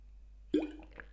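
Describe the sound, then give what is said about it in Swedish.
A single wet gulp as someone takes a sip of water, with a short liquid plop followed by a couple of faint swallowing sounds in otherwise quiet surroundings. “Jag måste ta en klunk, känner jag.”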